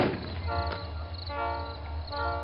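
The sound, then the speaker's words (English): A train horn blares in sustained, layered tones over the heavy low rumble of a passing train, loud, with no talking. “That's the sound! The train that killed Johnny Flowers!”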